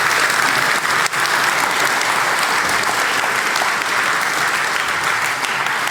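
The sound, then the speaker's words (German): A crowd applauds the bar staff steadily, a dense wash of many hands clapping at once with no pauses, holding an even, loud level throughout. “Applaus für die Bar.”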